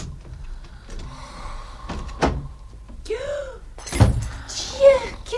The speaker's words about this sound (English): Door.